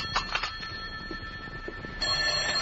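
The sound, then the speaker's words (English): A telephone bell rings in a Hartford apartment at 10:30 in the morning, a short, bright, jangling burst over a steady hiss, then fades, leaving faint background noise before the hiss swells again. “And that's where it stayed until the phone interrupted my first cup of coffee the next morning at 10:30.”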